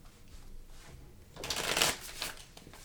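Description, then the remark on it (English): A new, never-used deck of cards, still in order, is riffle shuffled: a quick, crisp fluttering burst of bending cards after some quiet handling, followed by softer rustling as the deck is squared. “Now I have to shuffle this deck very good because you've never used it and it's all in order.”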